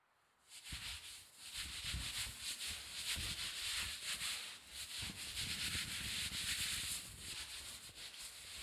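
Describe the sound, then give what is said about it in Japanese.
Steady, rustling friction of a towel rubbing and wiping after a carbonated shampoo, a continuous soft scrubbing with gentle rhythmic swells and brief pauses, moderately loud with no voices. “タオルで拭くからそのまま動かないでね。”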